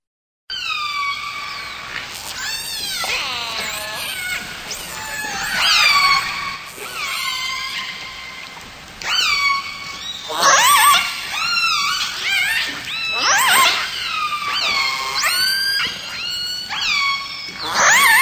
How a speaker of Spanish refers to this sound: Es un sonido muy extraño que quizás nunca hayan escuchado porque estos animales viven en el agua. Pero si dijeron orcas, están en lo correcto.